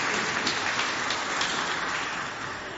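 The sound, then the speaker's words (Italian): An audience applauds the deputy mayor: a dense, steady patter of many hands clapping at once that holds for a few seconds and eases slightly toward the end. No voices are heard. “Il vice sindaco mi ha guardato un volo un po' di lì, dice, occa, figli un applauso al vice sindaco, è giusto che sono il vice.”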